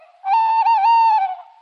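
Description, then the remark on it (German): A tawny owl gives a single drawn-out, slightly wavering hooting call lasting just over a second, heard clearly against an otherwise quiet background. “Vielleicht ein Waldkauz, der ist ja nachtaktiv.”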